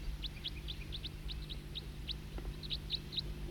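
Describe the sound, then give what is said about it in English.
A single bird gives a rapid, steady series of short, clipped "toop" calls, about a dozen evenly spaced notes at a mid-high pitch over a low, constant background hum. “Start recording the tooping again. Same bird.”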